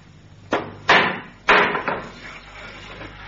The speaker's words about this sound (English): What was that? Someone at the door. But no one comes here at this hour. It sounds like a child knocking. Well, I will go and see.